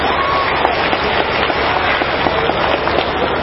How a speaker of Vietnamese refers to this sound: Xin dành tràng pháo tay để tự khen mình.